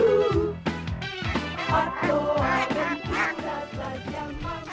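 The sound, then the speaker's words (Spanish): A rapid, steady series of loud, nasal duck quacks, about ten in a row, filling the whole stretch with no talking underneath. “Grandes aventuras con los patos.”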